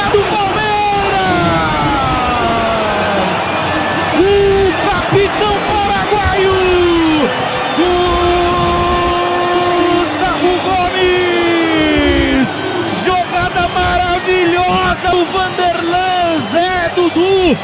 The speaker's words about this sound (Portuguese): Dudu pro Gomes e do Gomes pro fundo da rede que balança, a torcida canta, vibra, meu coração se alegra